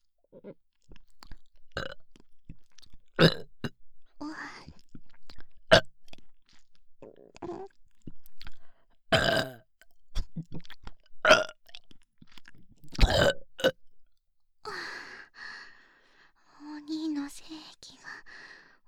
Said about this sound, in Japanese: 連続して大きいゲップは出せないの。ごめんね。